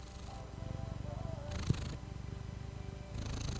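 cat purring

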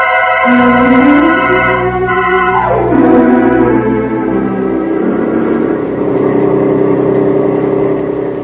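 truck engine approaching

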